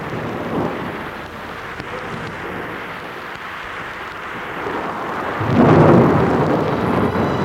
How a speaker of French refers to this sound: Dehors, l'orage gronde toujours.